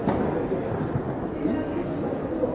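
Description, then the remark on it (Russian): Heavy rain pours steadily in a dense, continuous hiss, with a low rumbling undertone like thunder, fairly loud throughout: a sudden midday spring thunderstorm in May in the mountains. “чтобы не быть смытыми туда вместе с нами и вместе с этим дождем.”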